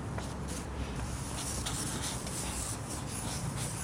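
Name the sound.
pen scribbling on paper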